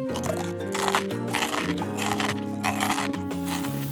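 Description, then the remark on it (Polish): Loud crunching of crunch-resistant breakfast cereal being crushed between the teeth while eating breakfast, a run of crisp bursts repeating every half second or so over a steady low tonal hum. “Zjadłem śniadanie, rozgniatając w zębach gryzoodporne płatki śniadaniowe.”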